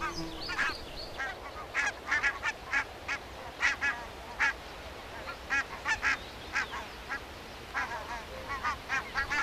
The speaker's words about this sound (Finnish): Siellä täällä kuulee kaikenlaisia kurinoita, pörähdyksiä, kun ne paheksuvasti ilmoittavat, että lintulaskija ei ole tänne tervetullut. Keskustelevat varmaan keskenäänkin.